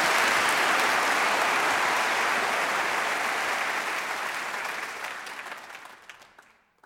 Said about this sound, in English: And so we want to give you a nice round of applause now again,